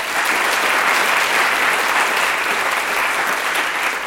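Sustained audience applause at a concert for the crew member on sound and lighting control, a dense, steady wash of many hands clapping at an even, loud level throughout, with no voices standing out.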